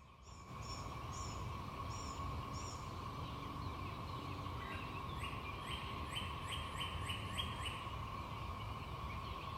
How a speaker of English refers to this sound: Hear that hum in the background behind the birds, that constant noise? That's the cicadas.